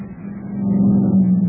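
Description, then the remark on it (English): A heavy truck drives past with a deep, steady low-pitched drone that swells slightly louder midway, with no voices. “A truck drove through that one.”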